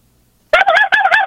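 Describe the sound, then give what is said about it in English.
After a short silence, a caller on a phone line imitates a turkey gobble: a loud, warbling, rapidly fluttering call in two bursts separated by a brief break, with no other talking. “On a phone call with a turkey”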